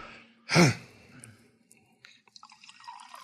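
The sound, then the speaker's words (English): Champagne is poured in a brief, loud rush, followed by soft crackling and popping as the bubbles fizz quietly for a couple of seconds. “Can you hear the bubbles, man?”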